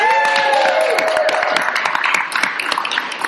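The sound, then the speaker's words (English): A crowd bursts into a loud, sustained round of applause for the race organizer, dense overlapping claps with some cheering and whistling mixed in, fading slightly toward the end. “Give him a round of here. Applause.”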